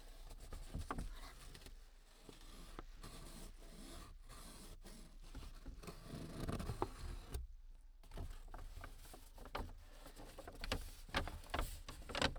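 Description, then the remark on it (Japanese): A paper bag, just picked up, is crinkled and rustled continuously for about twelve seconds, with crisp bursts of crackle and scratchy rubbing, fairly quiet throughout, picked up by a Neumann microphone. No voices. “紙袋の音。”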